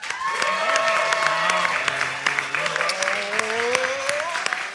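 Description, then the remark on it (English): A Pleasance audience claps to vote for one side of a debate: several seconds of a dense, even wash of many hands at a loud, constant level, with a few voices calling out and whooping through it. “I would like you to applaud now. Let's hear that.”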